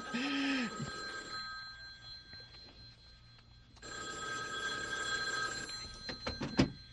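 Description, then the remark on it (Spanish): A telephone bell rings in two loud, bright metallic bursts, a short one and then a longer one after a quiet pause of about three seconds, ending with a few sharp clicks. “George, es una llamada para ti.”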